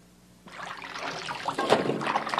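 Sea water splashes and swishes at the shore, starting suddenly after a brief quiet moment and building into a steady watery wash with a few louder surges.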